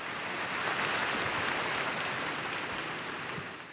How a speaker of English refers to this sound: The decree had passed. It deserved an applause.